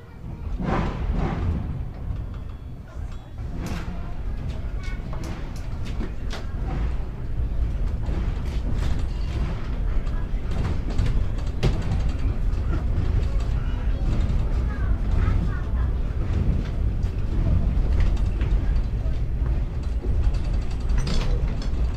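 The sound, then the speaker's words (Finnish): A train starting to move: a heavy, steady low rumble with scattered mechanical clanks and ratcheting clicks, growing slightly louder and more continuous as it gets underway. “No niin, juna saatiin liikkeelle.”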